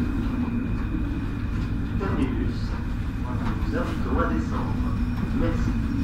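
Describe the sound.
Steady, heavy low rumble of a train rolling into its final stop, with a faint hum throughout and a voice speaking over the noise in the middle.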